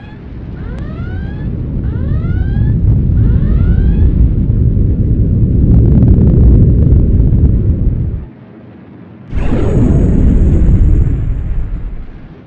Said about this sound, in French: Verrouillez l'escorteur de droite avec le canon laser lourd. Feu.